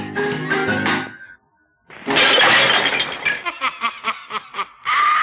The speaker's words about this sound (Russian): Вы слышите? Это она из рогатки разбила стекло.